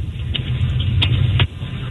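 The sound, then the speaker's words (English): A car engine heard over a phone call hums steadily with a low rumbling drone, broken by a few faint clicks, then drops off sharply near the end. “Yeah, we can hear your engine really well.”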